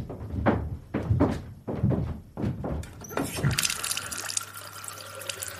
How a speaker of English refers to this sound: I wouldn't mind just splashing my face.